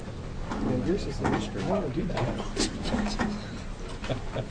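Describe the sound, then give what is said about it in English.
A chair squeaks and creaks with clunky mechanical clicks as its lever is worked while a witness takes a seat at a hearing to give testimony, a series of short, uneven squeals over a steady murmur of voices in the background. “Mine squeaks.”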